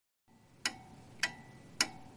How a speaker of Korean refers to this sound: 여행자를 이토록 긴 상념에 빠져들게 만드는 이 가게의 이름은 시간이다. 이 카페에는 많은 시계가 걸려있다. 내가 있는 공간에만 7개의 시계가 있다. 바깥 공간과 2층의 시계들은 훨씬 더 많다.